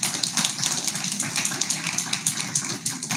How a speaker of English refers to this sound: Everybody give Susan a big round of applause.